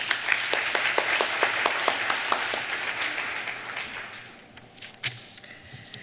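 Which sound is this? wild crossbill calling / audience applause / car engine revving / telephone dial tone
audience applause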